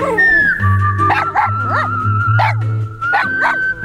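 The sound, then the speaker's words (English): A dog lets out a run of short, high yips and whiny whimpers, about five or six close together, loud, over a steady low humming background. “So you can get advice that doesn't come from a dog.”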